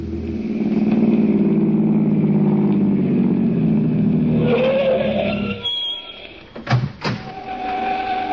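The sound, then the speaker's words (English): A car engine hums steadily as the vehicle drives to Bay Shore, a low continuous rumble that shifts pitch midway, then a couple of brief louder clunks near the end before the motor settles again. “Let's go for a drive.”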